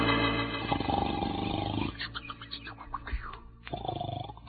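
A sleeping man snores loudly and raspily, a deep buzzing drone that rattles on, falters and shifts in pitch, then rumbles back up again, with no one talking.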